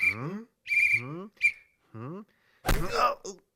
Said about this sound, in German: Das ist ein Vampir. Vampire sind aber wirklich unheimlich. Nur warum pfeift er so? Na, ist doch klar. Wegen der Kokosnuss.